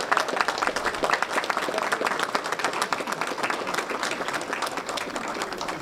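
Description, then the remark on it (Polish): Sustained audience applause for a three-year-old boy receiving a young hero medal from minister Mariusz Błaszczak, many hands clapping in a dense, even wash that stays loud and steady throughout, with no voices standing out. “Brawa”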